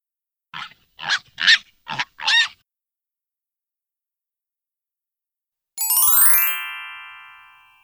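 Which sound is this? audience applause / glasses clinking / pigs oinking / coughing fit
pigs oinking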